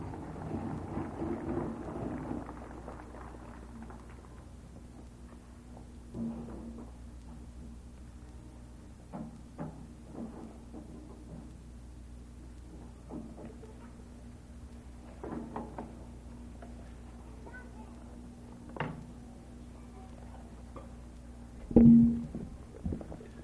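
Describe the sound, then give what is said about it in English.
Low, rolling thunder from a lightning storm rumbles through a steady background hum, with scattered soft crackles and one sharper, louder boom near the end. “Hope you all got your dues paid up with the boss, because those lightning bolts aren't kidding.”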